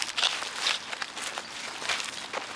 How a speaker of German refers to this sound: Wir sind jetzt schon einige Schritte übers Welttellerfeld gegangen und befinden uns auf einer Fläche, die im Ausland liegt.